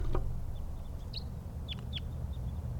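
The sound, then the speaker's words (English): Wild birds, including type 2s, flying around a net give several short, high chirps and whistled calls, scattered irregularly over a steady low rumble, with a brief thump at the start. Nobody speaks. “More wild birds, more type 2s around.”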